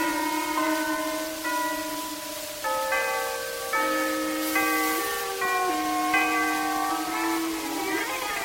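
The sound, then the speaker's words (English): Church chimes ring out a slow melody, with sustained, overlapping bell tones stepping up and down in pitch over a steady background hiss, and no voices. “Hold on, boys, the chimes are going to play.”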